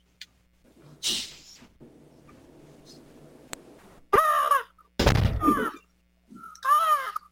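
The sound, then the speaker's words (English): Three loud, harsh screeching hawk calls, apparently a voice imitating the bird, follow a quiet stretch of soft background murmur, with a brief pause between the second and third cries. “The hawk, is it?”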